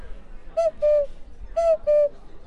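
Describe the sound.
An owl-shaped whistle plays a cuckoo call: two-note falling 'cu-ckoo' phrases repeated twice, with a third starting at the end, clear and fairly loud with no talking.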